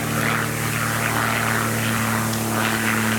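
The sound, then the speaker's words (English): A low-flying propeller airplane drones loudly overhead, its steady buzzing engine hum filling the whole moment with no voices over it. “That's one thing I never have to contend with in the auditorium. Low-flying planes.”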